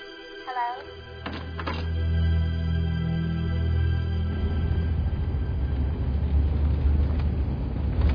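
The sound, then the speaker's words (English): A car drives along with a steady low engine rumble that turns rougher and noisier partway through, preceded by a brief electronic chirping at the start. “I don't know why you have to drive. It's my car.”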